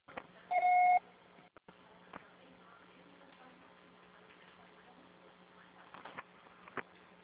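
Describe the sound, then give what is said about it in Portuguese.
A single loud, steady voicemail beep tone, the signal to start recording a message, lasts about half a second, then gives way to a low, constant hum on a muffled phone line, with a few faint clicks and rustles. “Seu acessório será tarifado após o sinal.”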